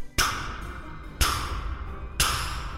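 Three slow, evenly spaced knocks on a front door, each a sharp, fairly loud hit that rings out briefly before the next. No voices are heard.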